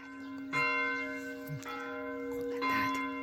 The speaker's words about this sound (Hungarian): Közben megszólalt itt a közeli templom harangja. Ez kicsit elnyomja a madárcsi csergést, de belesimulunk ebbe a környezetbe.